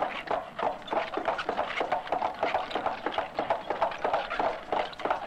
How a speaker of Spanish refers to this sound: Es un carro tirado por caballos. A veces también se utilizaban a las mulas. También a veces se usaban bueyes. Y estos se usaban sobre todo para distancias mucho más largas y para llevar cargas mucho más pesadas.